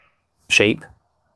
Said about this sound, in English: Sheep in the background.